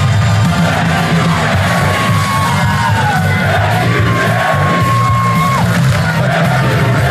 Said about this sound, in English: And when he rode up, he got a nice little chant from the crowd there, and they all wanted to, you know, give their thanks to old Jera. Lay out for a second because this crowd has something to say.